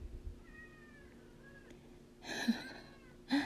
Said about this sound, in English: You would be hearing my fussy cat, as I suppose you are hearing. He's quite a joy to edit out of my files.